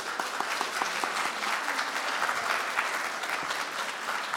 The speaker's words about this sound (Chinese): 我们大家给他们鼓掌一下吧。